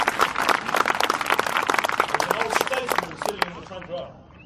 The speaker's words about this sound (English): I've got some dignitaries sitting here today, and I salute you in the name of Jesus Christ. And I thank you for coming out. Can you give them a clap, please? Thank you very much.